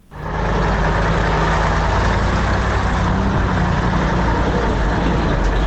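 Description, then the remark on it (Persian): A steady, loud rumble of engines from convoys of passenger and cargo vehicles on the public road through the Salang valley on the Salang highway in winter, with deep low-pitched droning and broad road noise as trucks and buses pass. No one speaks. “سرک عمومی داخل دره سالنگ مثل همیشه شاهد تردد کاروانهای موترهای مسافربری و باربری است که ازدحام آن چشمگیر به نظر می رسد.”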